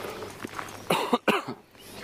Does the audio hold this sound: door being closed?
no